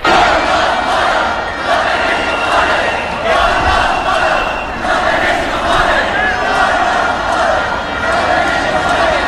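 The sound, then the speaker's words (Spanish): A large protest crowd at the Congress chants loudly in unison, the rhythmic shouted phrases repeating in waves over a dense, continuous roar of voices, while police charge protesters trying to pull down the fence and objects fly. “Estamos en el patio del Congreso, que es el único sitio seguro, y vamos a escuchar algunos de los cánticos.”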